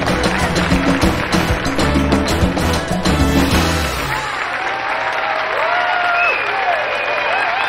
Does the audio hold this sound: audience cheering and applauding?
yes